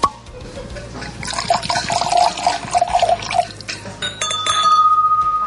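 A bottle of wine from Milești Mici opens with difficulty and is poured, with glassy clinks and a liquid gurgle, ending in a steady ringing tone from the glass. No one speaks.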